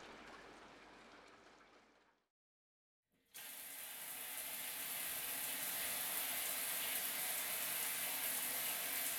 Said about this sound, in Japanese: はい、シャワー温まったよ。